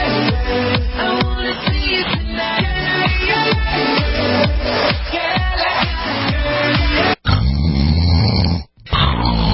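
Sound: person snoring loudly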